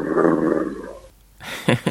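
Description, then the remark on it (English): A dog named Gibson makes a long, drawn-out, moaning vocalization with a growly, roar-like tone, then after a short pause gives two brief, rising yowls that mimic the phrase "I love you". “You want to hear Gibson say, I love you?”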